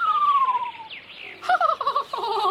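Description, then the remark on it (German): A parrot, Papageno, gives a high, thin whistle that glides steadily downward, then breaks into a quick, warbling trill of fluttering notes, with no voices. “Jetzt singt das Vögelchen wenigstens.”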